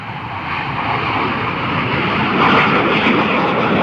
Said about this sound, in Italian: Pochi minuti dopo, un caccia MiG-29 si alza in volo, affianca l'aereo e lo scorta fino a terra.